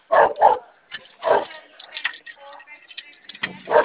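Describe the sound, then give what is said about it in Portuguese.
A dog barks in sharp bursts: a quick double bark, another bark a moment later, then one more at the end, fairly loud, with quieter murmuring sounds in between. “Cachorro, só Deus.”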